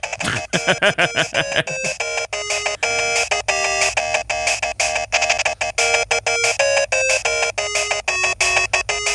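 A Game Boy console sound: bright, buzzy electronic beeps running through a quick chiptune melody, loud for several seconds with no one talking.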